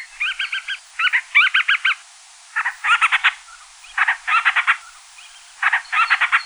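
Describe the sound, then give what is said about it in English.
Akeake seabird calls at a breeding colony at night: short bursts of rapid, pulsing chatter, repeated about six times with brief pauses between, fairly high-pitched and loud, with no voices. “One of the best ways to find them is to listen for their calls around their breeding colony at night.”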